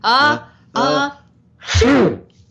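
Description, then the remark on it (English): A voice imitates a sneeze into the elbow as group practice: two rising, drawn-out "ah" breaths followed by a loud, noisy burst, with no other sounds around it. “Let's all do an elbow sneeze.”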